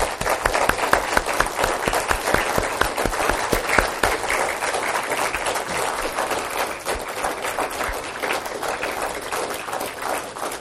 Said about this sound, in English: And I think it would be fitting, again, once more, that we all say thank you by giving them a round of applause.